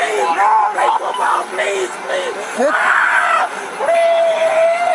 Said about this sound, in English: We see the driver with his hands up here before a Circleville police officer released his canine. The driver was bitten by the dog. You can hear him here in pain.